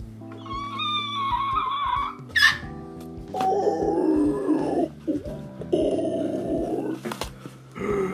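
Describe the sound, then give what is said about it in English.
A person imitates an animal roar: a drawn-out tonal howl, then two long, raspy growling roars with brief pauses between them, loud. “Give us another one. Do the roar.”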